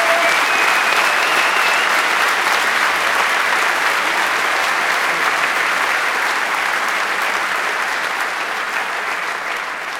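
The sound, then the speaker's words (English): A round of applause from a crowd: dense, steady clapping fills all ten seconds at a loud, even level, with no pauses and only a slight fade near the end. “Give yourselves a round of applause and give a round of applause for these guys.”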